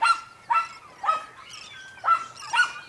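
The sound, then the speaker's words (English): A dog barks repeatedly at a fish in a steady rhythm, about six sharp barks spaced roughly half a second apart, with no talking. “She barked and barked at the fish.”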